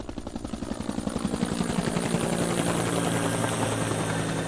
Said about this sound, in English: NASA even sent a helicopter over with infrared equipment, hoping to help locate the burial sites by air.